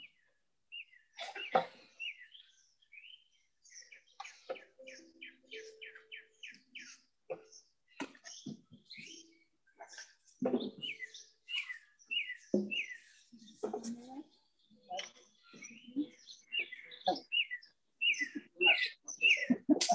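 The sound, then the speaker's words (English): Several birds chirp and sing continuously, with rapid runs of high, repeated tweets and trills, lively, broken by occasional sharp knocks or rustles. “Well, it's nice that the birds came in right on cue.”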